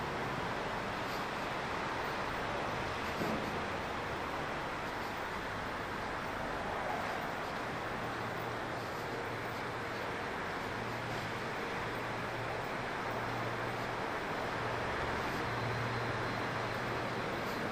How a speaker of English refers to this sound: There it goes. His car's on.